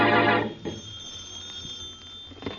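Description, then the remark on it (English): A telephone bell rings in the Brumley home, loudly in one short metallic burst that quickly fades, followed by faint room noise and a steady high hum, with no talking. “And in the Brumley home, the phone rings.”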